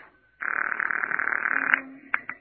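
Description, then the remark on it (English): A telephone rings as a call is placed to reach a police captain, a steady, buzzing warble lasting over a second, followed by two short clipped bursts, with no voices present. “They're ringing now.”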